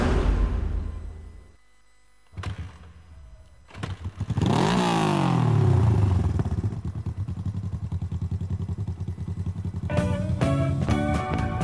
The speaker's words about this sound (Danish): Hør, nu starter de motoren over ved Olsens kaffebar.